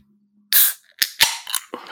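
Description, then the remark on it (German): A can or bottle of Spezi soda is cracked open with a sharp hissing burst of escaping gas, followed by a few quick clicks and short fizzy bursts over a faint low hum. “Oh, ist das ein Geräusch? Ja, die Sonne scheint draußen in der Spezi, das sage ich auch noch jetzt schon mal.”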